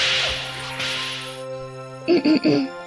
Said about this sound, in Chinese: 好痛啊！我知道我说错了吗？没有必要用麦克风线当鞭子 SM 我。